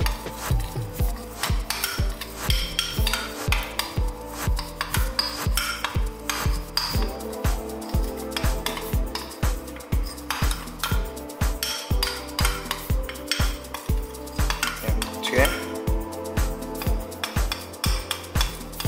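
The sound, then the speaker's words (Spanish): A utensil stirs steadily in a bowl, with repeated scraping and clinking strokes in a fairly quick, regular rhythm. A thick mixture of coconut oil and cacao is being blended, and no one speaks. “El aceite de coco y el cacao se mezcla súper bien.”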